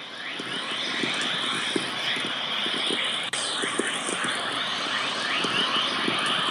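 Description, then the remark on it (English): Whistler-mode chorus plasma wave audio, a wave that accelerates particles in the radiation belts to very high energies, played back as sound: a dense, continuous chorus of rapid rising chirps and whistles over a steady hiss, like a flock of birds twittering, with faint low ticks underneath and no voices. “Well, that wave that you just heard there was Whistler Mode Chorus, which is a particularly important wave which can accelerate particles in the radiation belts up to very high energies.”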